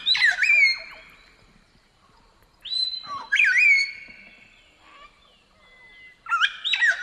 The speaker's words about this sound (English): Yeah, you could also hear it in New Guinea and Indonesia, but in Australia, it is our largest parrot, the palm cockatoo, also known to some as the Goliath cockatoo.